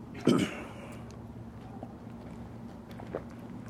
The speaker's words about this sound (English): Excuse me, I need to take a drink of water.